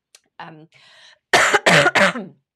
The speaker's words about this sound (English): Also got a bit of a cough, sorry.